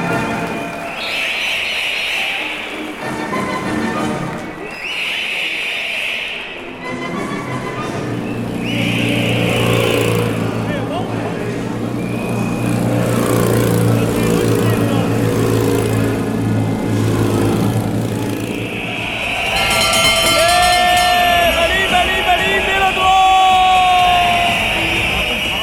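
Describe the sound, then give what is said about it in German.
Bike race sounds: three shrill whistle blasts, then a steady, loud rumble of engines, with bright ringing bells and more whistling over the motor noise toward the end. “Pfeifen, Glocken und Motoren, manch einer wird es erkannt haben”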